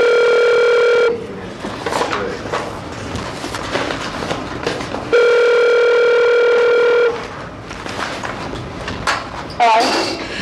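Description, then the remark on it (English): A telephone rings twice through a line as an outgoing call connects before a hearing, each long electronic tone lasting about two seconds, separated by a pause filled with muffled room noise and faint murmuring. “We have some phone calls to make, and as soon as we get the calls,”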